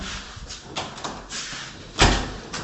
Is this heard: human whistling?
no